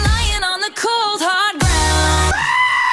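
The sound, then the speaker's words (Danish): A goat bleats loudly in a string of wavering, quavering cries, one harsh and raspy, with no other sounds around them. “Det er rigtigt, men det er simpelthen det er den rigtige gedelyd.”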